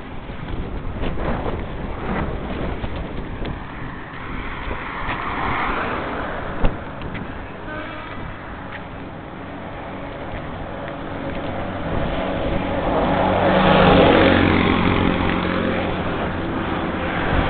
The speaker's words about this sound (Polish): Śmieciarka. Duża, taka jak amerykańskie. Duża, hałaśliwa śmieciarka.